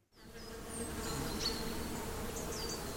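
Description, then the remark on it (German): A steady, dense buzzing of bees and bumblebees fills a flowering spring meadow, a continuous hum of many insects, with faint bird chirps high above and no voices. “Eine blühende Frühlingswiese voller Bienen, Hummeln und Käfern, das wird leider immer seltener.”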